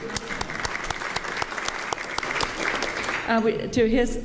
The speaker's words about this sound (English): We'll go ahead and clap.